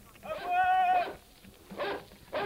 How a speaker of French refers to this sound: À gauche, je vois la grotte. Le chien!